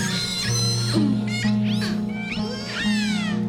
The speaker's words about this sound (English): The other kind of sounds that the whales make, these very shrill, metallic-sounding squeals and screams, tend to be for communication between individuals in a group and between groups.